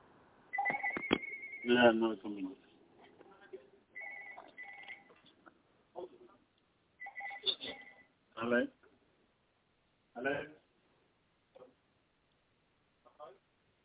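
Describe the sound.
A landline telephone rings with an incoming call in short repeated electronic bursts at moderate volume, interleaved with brief snippets of a person speaking.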